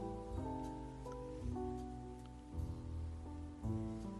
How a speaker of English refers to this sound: Now watch as the car gets sprayed all over with water. This water spray takes off the rest of the soap and dirt.